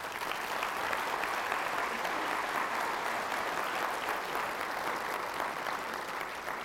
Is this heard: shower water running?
no